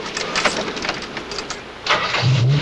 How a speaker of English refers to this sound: From the passenger seat, the slick-haired henchman turns on the ignition.